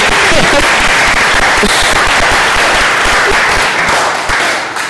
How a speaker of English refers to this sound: Can you just clap for us and congratulations, well done.